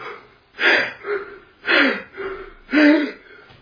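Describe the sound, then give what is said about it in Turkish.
A person imitates breathlessness with three loud, rasping gasps in a steady rhythm, each followed by a shorter wheezy exhale. “Yani bende de nefes darlığı var ya, o hareketinizden bile darlanıyorum.”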